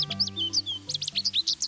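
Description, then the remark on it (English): A male American goldfinch in bright yellow breeding plumage twitters in a quick run of bright, high chirps and warbling notes, clear, with a low steady hum running underneath. “This American goldfinch is unmistakable in his bright yellow breeding plumage.”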